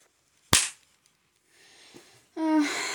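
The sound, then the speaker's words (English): One loud, sharp slap of a person slapping themselves in the face cracks out and quickly fades, followed by a soft rustle and then a sustained, tonal vocal sound like a groan or moan. “Slap yourself in the face if you think you've earned it.”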